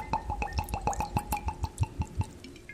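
Deep amber Maker's Mark Kentucky Straight Bourbon Whiskey glugs two fingers high into a heavy glass over a large ice cube in a quick, steady rhythm of wet pulses, with sharp little clinks and cracks from the ice. No one speaks.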